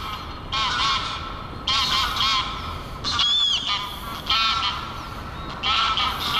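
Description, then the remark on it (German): Greylag ganders (male geese) honk loudly in repeated harsh bursts while fighting over nesting sites, several birds calling over one another in an agitated, quarrelsome clamor, with brief pauses between volleys and a steady outdoor background, on a sunny March day in the Eppendorfer Moor nature reserve. “Die Ganter, also die männlichen Gänse, messen ihre Kräfte und sind dabei kaum zu überhören.”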